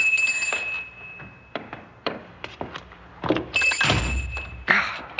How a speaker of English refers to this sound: This old door. It's on a latch, but I have to be sure it locks.